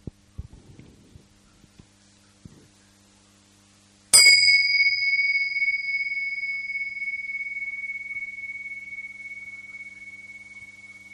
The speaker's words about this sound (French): Voilà, je vais faire sonner un gong pour nous inviter à un moment de présence partagée pour commencer.